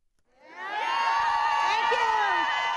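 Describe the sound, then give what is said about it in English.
A large crowd at an anti-war protest rally cheers and shouts, swelling from quiet within the first second into a sustained, dense roar of many voices with high whoops rising above it. “Standing behind the podium at today's rally, United for Peace and Justice National Coordinator Leslie Kagan smiled as she looked at the largest crowd she'd seen at an anti-war rally in a while.”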